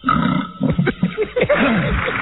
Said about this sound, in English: He's burped. What the hell is that? It sounds like he's on the toilet, but he burped. Okay. Wow. My first record, ladies and gentlemen. He burped. Like it's edited in there.